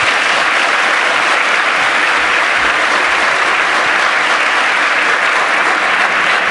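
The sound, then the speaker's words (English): Sustained audience applause welcoming FX before his tutorial session on building disassemblers, a dense, steady wash of many hands clapping at a loud, even level throughout, with no voices standing out. “Give FX a huge round of applause for the schooling on disassemblies he's going to give you right now.”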